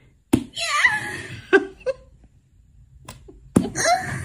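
Three sharp slaps on a mask, each instantly setting off a loud, warbling electronic sound effect from the Slap Mac app that rings out briefly before fading, with a few softer taps in between.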